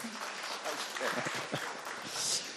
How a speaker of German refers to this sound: ein Applaus.